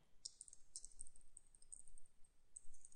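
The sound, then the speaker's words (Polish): Faint computer keyboard typing and mouse clicks as a new file is named and created in Microsoft Money software, a handful of soft, irregular taps spread across a few seconds, with no voices and a quiet background hiss. “Nazwa może być dowolna. Klikam.”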